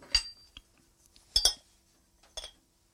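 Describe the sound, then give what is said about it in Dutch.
A spoon clinks against a bowl in three quick, bright bursts with short pauses between, fairly loud, as butter and a little cinnamon are added to the bowl and scraped and stirred in; no one speaks. “Ik doe boter in de schaal. En dan zal ik daar ook een beetje kaneel bij doen.”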